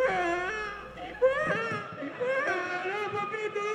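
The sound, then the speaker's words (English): A grown man's voice mimics a wailing baby in a packed church, hamming it up with drawn-out, quavering cries that rise and fall in pitch, continuous and fairly loud for a few seconds, with no ordinary speech. “A grown man is crying like a baby, really hamming it up.”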